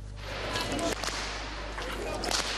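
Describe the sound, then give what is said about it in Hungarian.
Several sharp whip cracks ring out at irregular intervals over a steady outdoor crowd murmur and low hum, each crack loud and snappy with a brief echo. Betyár (outlaw) performers from the Hajdúság region crack whips as they parade from the old town of Uzhhorod, Ukraine, to the theatre square during a Ukrainian-Hungarian good-neighbour day. “Ostorcsaptoktatással vonultak a hajdúsági betyárok Ungvár óvárosából a színháztérre.”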